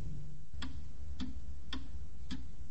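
A clock ticks steadily, four crisp, evenly spaced ticks about half a second apart, heard alone over a low, constant background hum.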